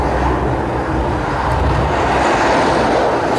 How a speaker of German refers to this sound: Und da ist ein LKW